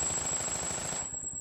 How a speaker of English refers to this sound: I looked back to see Ambridge and Harris, each behind a different car, firing at the helicopter in front of us.